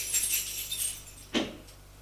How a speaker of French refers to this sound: Sort de l'appartement. Fais bien attention de bien fermer la porte à clé.